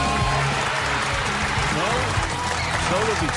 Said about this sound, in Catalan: Aplaudiments pel Manchester City.